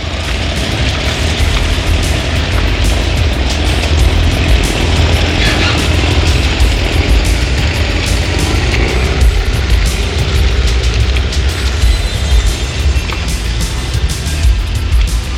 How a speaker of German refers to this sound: Der Wal begleitete das Motorboot hinaus aufs Meer.